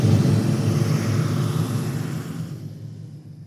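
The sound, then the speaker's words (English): A motorcycle gang approaching the Florida state border with Georgia: a steady, throaty roar of motorcycle engines, a low droning rumble with a harsh edge. It holds for a few seconds, then gradually softens and dulls toward the end. No voices. “They hear the sounds coming. Motorcycles.”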